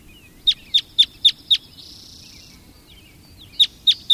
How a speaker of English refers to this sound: Red crossbills can be seen searching for cones on the tops of the trees, climbing around using their feet and bills in the manner of parrots.